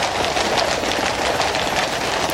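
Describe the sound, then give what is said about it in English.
Horse's hooves clatter in a steady, rhythmic pattern beneath a constant, loud hiss of gentle rain in London, with no voices, as King Charles travels by horse-drawn carriage from Buckingham Palace to the Houses of Parliament for the opening of Parliament. “horse's hooves there, and it's London, the gentle sound of rain.”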